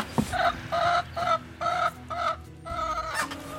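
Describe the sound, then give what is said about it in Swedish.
Several hens, owned jointly with some neighbours, cluck in a run of short, nasal bursts with brief pauses between them, fairly loud and clear, with no voices present. “Och de har ansvar för hönsen som de äger tillsammans med några grannar.”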